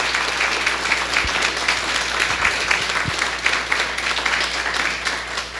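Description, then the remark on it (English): Sustained audience applause for three candidates at a candidate forum, a dense steady wash of many hands clapping at even loudness for several seconds, with no voices standing out. “Thank you very much, and ladies and gentlemen, how about a round of applause for our three candidates?”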